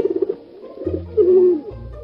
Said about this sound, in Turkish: Bu bir güvercin. Hem de taklacı bir güvercin. Çok havalı.